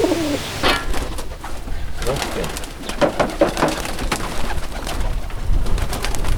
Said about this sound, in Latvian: Lidotāji baloži, kuru lidojumi ir tik dažādi, gan ir slinkāki, tāpēc viņus vajag mudināt trenēties, un tas jādara katru dienu, laižot ārā no būra, gan jāuzmanās no vanagiem.